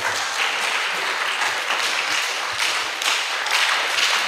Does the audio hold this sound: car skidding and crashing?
no